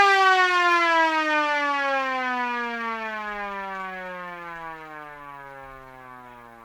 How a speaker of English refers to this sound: The sound of the siren just sort of gets wider and more full, pretty much, less muted. And here it is with all the chambers open.